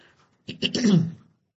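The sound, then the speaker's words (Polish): Bab Dada coughing repeatedly while the instrument is not feeling well: a quick run of coughs, about three harsh bursts blending together within a second, fairly loud, with no talking around them. “Bab Dada wielokrotnie kaszlał.”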